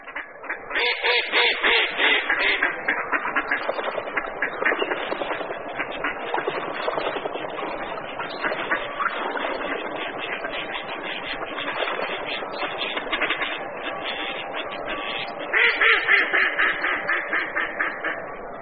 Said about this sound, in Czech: se ozývá naše nejobyčejnější kachna, kachna divoká, častěji známá jako březňačka.